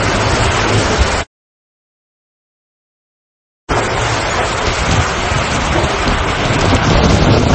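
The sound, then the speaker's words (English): Loud, roaring tornado wind and heavy rain blast steadily across the whole band in storm chasers' footage, cut by a few seconds of dead silence before the howling torrent resumes just as strongly. “I just got to say, big balls on the storm chasers.”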